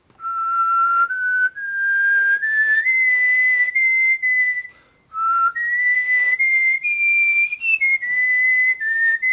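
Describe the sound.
A person whistles a movie theme tune as a clue in a guessing game, a bright, steady melody of held notes stepping up and down in pitch, with one brief pause partway through and no talking.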